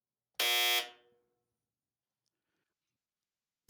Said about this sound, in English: Dryer sound. Yeah, I love that sound. It's the best buzzer sound I could find. It's kind of anemic, but it's okay.